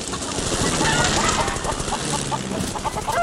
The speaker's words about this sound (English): We rolled straight through the whole flock. And I've always enjoyed scattering chickens, you see.